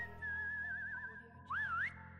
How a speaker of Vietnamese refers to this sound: Có tiếng huýt sáo từ bên ngoài vọng vào, không nghe ra là làn điệu gì. Dù là ai, chắc chắn tâm trạng người đó đang vui vẻ hơn hẳn chúng tôi.